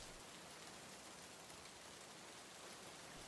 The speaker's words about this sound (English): Right, now it's raining. Did you bring an umbrella? No, I didn't. I must have lost it. Whatever, I'll just walk in the rain.